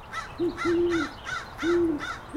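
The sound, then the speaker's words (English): A female owl hoots a series of five low, hollow notes, a little higher pitched than the male's, in a steady rhythm, some short and one drawn out, clear against a quiet background. “I think that is the female. I thought it was. Because she is a little higher pitched.”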